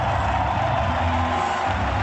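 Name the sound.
stadium crowd ovation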